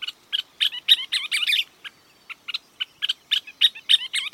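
A scissor-tailed flycatcher calls in a fast series of sharp, chattering notes and stuttered bursts, fairly loud, with brief gaps between phrases and no voices.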